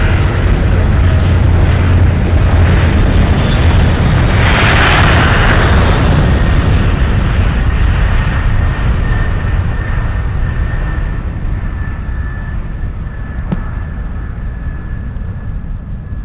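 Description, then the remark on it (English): Eastern Flight 278, a twin-engine airplane, roars loudly through its takeoff roll on runway 27 left with winds from the west at 5 knots, a dense, steady engine drone with a brief surge of hiss, slowly easing as it pulls away. “Both of those engines are running great.”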